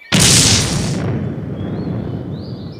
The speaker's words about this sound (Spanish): ¡Que nadie se mueva! Aquí estamos bien resguardados de los cañonazos.